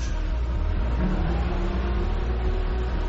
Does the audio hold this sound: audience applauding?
no